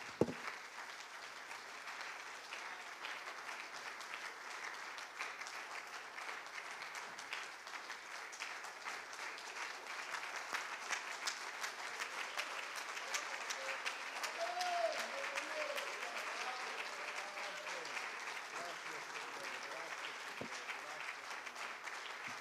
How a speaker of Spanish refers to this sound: Y la iglesia, el Señor dice: dele palmas al Rey.